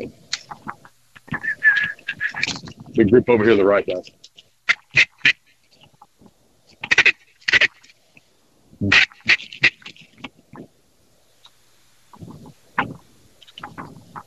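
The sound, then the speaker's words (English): A flock of ducks quacks in scattered bursts overhead, some calls louder, others fainter, while a man briefly speaks over the birds. “That'd be new birds.”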